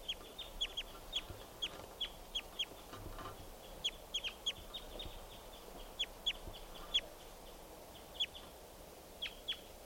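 A juvenile male wild bird calls with a steady run of short, sharp, high-pitched chirps in irregular bursts over a quiet, hissy background, with no one talking.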